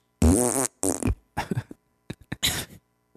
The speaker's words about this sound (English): Yeah, if you get a massage real good, you're going to express some gas.